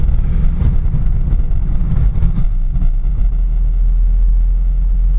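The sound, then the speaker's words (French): A car rolls at walking pace along a snow-covered, tree-lined road at night, close behind the car in front, its steady low engine rumble and muffled tyre noise heard from inside, with no voices and no other distinct sounds. “Donc je me retrouve sur une route bordée d'arbres, tout blanc, il fait nuit, il est 18h31 et on roule au pas et je suis trop près de la voiture devant si je dois freiner.”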